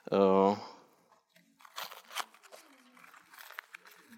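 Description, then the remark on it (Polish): A short vocal sound opens, then soft, irregular papery rustles and crinkles follow for a few seconds, fairly faint, as sheets of A4 paper are picked up and shuffled, one taken by each participant for making a paper pinwheel. “Chciałbym, żebyście Państwo sobie pobrali kartki.”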